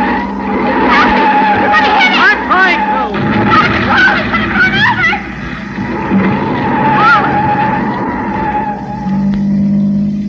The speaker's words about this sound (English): I'm going to pull to one side, slam on the brakes, and see what happens.